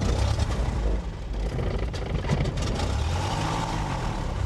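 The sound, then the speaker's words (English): A small propeller plane engine runs steadily during a 13-year-old pilot's pre-flight check at Compton Airport, a loud, continuous low drone with a rough, buzzing rumble and a faint rising and falling hum, with no voices. “Strickland is running his pre-flight check before taking me up in a plane thousands of feet above the city.”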